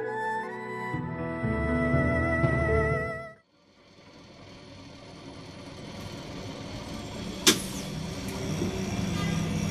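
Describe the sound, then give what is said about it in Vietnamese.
A loud, sustained multi-tone bus horn blares for about three seconds as a bus pulls into its stop, then cuts off and a steady engine rumble builds, broken by one sharp clack near the end. “Có tiếng xe bóp còi và tiếng thắng rít lên, báo hiệu đã tới bến.”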